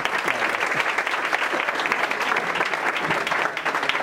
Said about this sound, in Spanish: Un aplauso muy fuerte